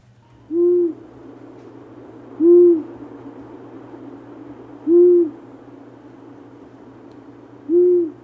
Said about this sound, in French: Alors là on a un son déjà moins grave et plus rapide. Voilà, un ululement beaucoup plus bref, un petit « ouh ». « Ouh », très facile à reconnaître dans la nature. C'est le hibou moyen-duc, qui est plutôt forestier. Il niche dans des grands arbres.